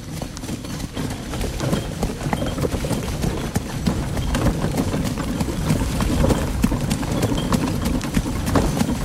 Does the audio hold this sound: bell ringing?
no